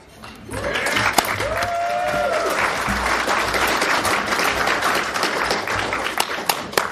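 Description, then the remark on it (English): An audience applauds steadily for several seconds, a dense, loud wash of many hands clapping at an even level, with a brief whoop or whistle rising above it early on. “You're going to give me the clap.”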